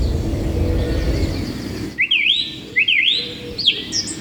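Birds chirp in a series of bright, rising, clear tweets after a brief stretch of rushing background noise; several quick calls repeat in a loose rhythm.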